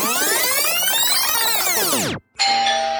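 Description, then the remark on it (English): An electronic doorbell chime plays a bright, ringing cascade of tones that sweeps downward, breaks off briefly, then resumes with a steady sustained note as a visitor arrives at the door. No voices are heard. “The doorbell rings as the weary traveler arrives first.”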